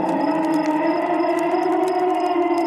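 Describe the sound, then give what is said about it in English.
An eerie, sustained wailing tone with layered harmonics holds steady and loud for a few seconds, a Scooby-Doo cartoon ghost's moan like the old Miner 49er, with faint higher whistling flickers above it and no talking. “My favorite Scooby-Doo ghost sound was the old Miner 49er.”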